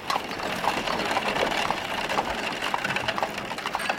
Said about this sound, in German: Da fuhren Kutschen, der Pferdeomnibus, die Pferdestraßenbahn. Ein paar Leute sind mit dem Fahrrad gefahren und die meisten waren zu Fuß unterwegs.